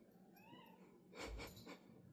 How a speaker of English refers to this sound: He's like, I get pets now. Yeah, he wants pet and purring now.